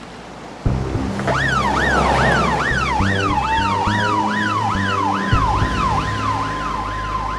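An ambulance siren wails loudly and close by in a rapid, rising-and-falling yelp that repeats steadily, with the rumble of an engine and road traffic underneath and no voices.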